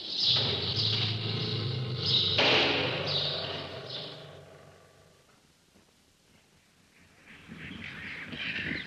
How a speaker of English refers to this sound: Well, we're just passing a cage with some birds called Quaker parakeets, which are simply enormous, and they make quite a lot of noise. It must be because we're walking by.